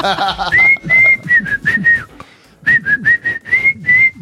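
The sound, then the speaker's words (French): Someone whistles a tune for a whistling blind test, two melodic phrases of clear sliding notes separated by a short pause, with a brief bit of voice at the very start. “Moi, je vais te faire un blind test de siffle.”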